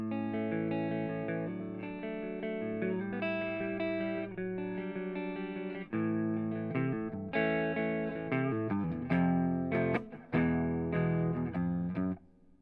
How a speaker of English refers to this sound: Going to do the same with the neck pickup. Switching back to clean, only reverb on.